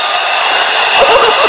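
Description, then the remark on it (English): A crowd roars with cheers and scattered whoops in a dense, steady wash of noise that holds loud for the whole moment and swells slightly toward the end. “The crowd loves it.”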